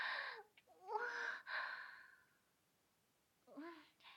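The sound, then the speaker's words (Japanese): Heavy breathing from someone out of breath after carrying books: a few long, airy exhales in quick succession, then a short pause before another ragged breath. “さっきまで本運んだりしてたから、それでちょっと息切れしてるかも。”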